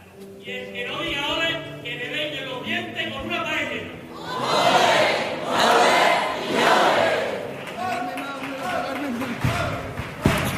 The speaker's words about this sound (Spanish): Bueno, como decía, ¿no?, precisamente ese grito de ánimo, haciendo referencia a esa trayectoria, ¿no?, de esta chirigota que viene desde la cantera creciendo hasta llegar aquí a la categoría absoluta.